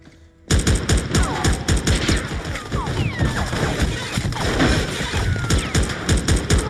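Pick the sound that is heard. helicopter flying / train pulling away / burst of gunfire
burst of gunfire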